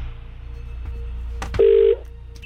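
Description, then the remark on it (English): A click on a phone line, then one short, loud burst of steady ringing tone from an outgoing call placed by KMFM radio to call back a listener, over a low constant hum. Nobody speaks. “I've now got somebody's name in front of me that we need to call back and try and make a winner.”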